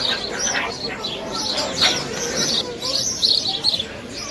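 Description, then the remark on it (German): Meerkats chirp and call back and forth to each other in a steady, overlapping chatter of short, high, bird-like squeaks, several animals with no pauses between calls. “Und so klingt es, wenn Erdmännchen miteinander sprechen.”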